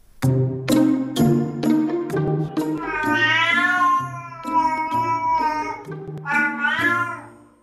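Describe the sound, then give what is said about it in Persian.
A cat meows repeatedly, a run of loud, drawn-out, wavering cries with a few shorter calls between them, and no talking anywhere. “حالا دو دانشمند آمریکایی می گویند راهی برای ترجمه میومیوهای گربه پیدا کردند.”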